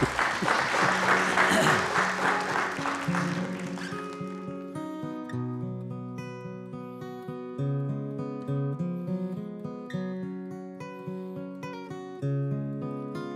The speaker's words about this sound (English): So everybody give Mike a round of applause.